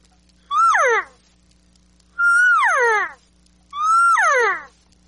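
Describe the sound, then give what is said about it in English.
Three loud elk bugles in a row, each a high, reedy whistle that rises then slides down into grunting overtones, separated by short pauses over a faint low hum, with no talking. “Opening season, 99% of the guys go in, and the first sound out of their mouth, it's a bugle.”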